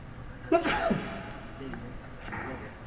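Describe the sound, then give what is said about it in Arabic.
A single sharp sneeze bursts out, brief and forceful, followed by quiet with a faint background murmur. “رحمك الله.”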